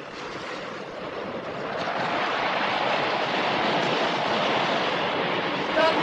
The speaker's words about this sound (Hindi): कितनी ऊंची ऊंची लहरें हैं, हवा भी कितनी तेज है। हमारा जहाज तूफान में गिर गया है। तूफान में फंस गए हैं।